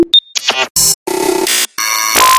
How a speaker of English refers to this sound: Buzzes and beeps.